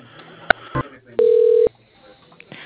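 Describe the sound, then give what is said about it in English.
Telephone call transfer tones on a call to the Scribner Plastics phone line: a couple of sharp clicks, then a single steady mid-pitched beep lasting about half a second, with faint line hiss on a thin, band-limited phone line. “You are being transferred to...”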